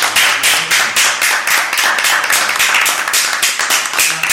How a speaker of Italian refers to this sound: Io farei un applauso. Bravissimo.